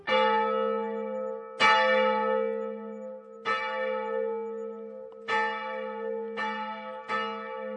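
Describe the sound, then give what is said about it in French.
A church bell above a cloister courtyard tolls repeatedly, about six strikes at uneven intervals, each ringing out with a long, rich harmonic decay that overlaps the next, echoing off the foliage of a nearby forest. No voices, just the resonant bell. “La cloche qui domine la cour des cloîtres se répercute sur les frondaisons de la forêt toute proche et pénètre dans les bâtiments de la maison centrale jusqu'au dortoir.”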